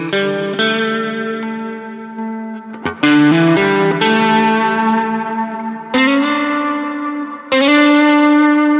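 An instrument played through effects and a Blue Box: loud, sustained chords with a distorted, shimmering, somewhat woody edge, struck anew about six times and left ringing with echo-like tails. No one speaks.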